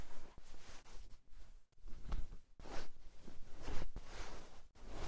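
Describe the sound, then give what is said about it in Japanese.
Soft rustling of clothing in several bursts, with a brief scratchy zipper sound as a button is undone, the zipper pulled down and trousers slid off. No voices. “ボタン外して、チャック下ろして。おズボンさん、脱ぎ脱ぎ、 ぽーい。”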